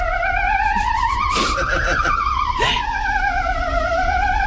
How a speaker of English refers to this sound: And just there, I ranked my favourite ambulance noises from around the world, with number one being Belgium, sounding like this.